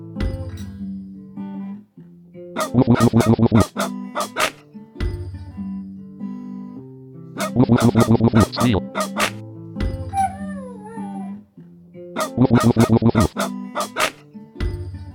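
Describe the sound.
Three loud clusters of rapid dog barking, each a quick run of sharp woofs lasting about a second, spaced evenly over steady tonal music with voices.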